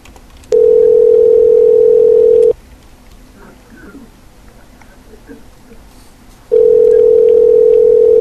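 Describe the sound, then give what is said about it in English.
A phone line rings out on an outgoing prank call to Little Village Noodle House, a Chinese restaurant in Honolulu: two steady, clear electronic ring tones, each about two seconds long, separated by a four-second gap filled with faint background murmur. “Oh, answer your fucking phone.”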